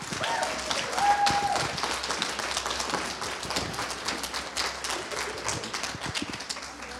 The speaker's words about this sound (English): So round of applause, please